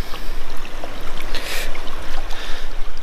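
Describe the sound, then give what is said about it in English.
Water sloshes and swirls continuously in a gold pan during a test pan, washing off the top material, a steady splashing wash with brief louder surges, no voices present. “Just taking that top material off, letting the water do the work.”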